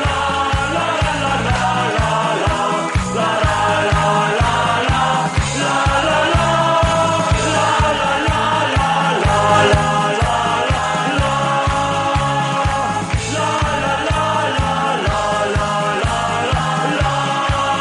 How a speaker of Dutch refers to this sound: maar ze waren hun teksten wel een beetje kwijt op het eind, had ik de indruk, want het was voornamelijk la la la wat ze zongen. En ja, dat kan natuurlijk iedereen meezingen.